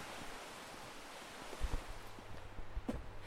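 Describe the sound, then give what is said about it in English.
A steady, broad rush of the River Barle flowing beside a little wooded trail fills the scene, fairly loud, with a few soft low thumps partway through and no voices. “There's the sound of the river, there's birds tweeting, lots of trees, dappled sunlight.”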